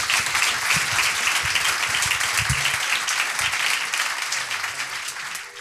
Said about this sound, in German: Also ein Applaus für die wunderbaren Worte.